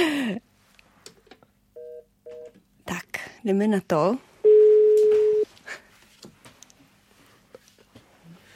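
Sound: telephone ringing tone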